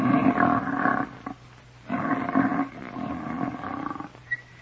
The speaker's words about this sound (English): The monkey pulled a chunk of hair from the elephant's trunk. The elephant snored.